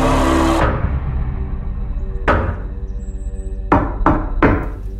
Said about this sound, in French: Et oui, ça toque à la porte. Knock at the Cabin, c'est dispo au cinéma Zarin depuis aujourd'hui.